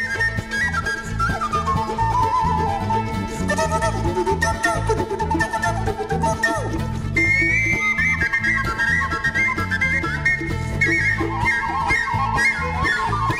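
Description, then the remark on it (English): A penny whistle played by a musician carries a lively, high melody that rises and falls over a full backing band with steady bass and drums, loud and continuous throughout. “… is known for, among other things, being a virtuoso of the penny whistle.”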